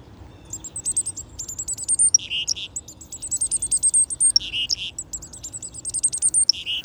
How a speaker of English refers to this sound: We've got chickadees here. It's a festival of black-capped chickadees. And cars. But mostly chickadees.